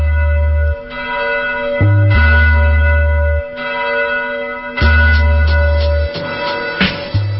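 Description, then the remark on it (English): A loud, resonant time-signal bell on KBOO radio marks 5:32, chiming in a series of strikes, each tone ringing out and overlapping the next in a slow, steady sequence, with no voices. “At the bell, the time will be 5:32.”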